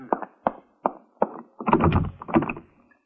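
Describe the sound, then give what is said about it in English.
A locked door being tried: four evenly spaced knocking clunks, then a louder burst of rattling and jostling as the handle is shaken hard, with no voices. “The door is locked.”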